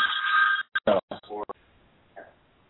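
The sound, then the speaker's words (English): A short electronic phone ring from someone calling in on another phone line, a steady high-pitched tone lasting about half a second, followed by choppy bursts of a voice over a thin, telephone-quality line. “Someone calling in on the other phone here.”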